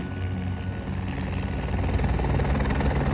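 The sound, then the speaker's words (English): A helicopter thunders steadily overhead as it shoots at Islamist militants besieging a hotel, filmed on a phone; its rotor chop a dense, continuous low-frequency throb that stays loud and close for the whole stretch, with no voices. “this chopper and that sound brings with it the promise of survival.”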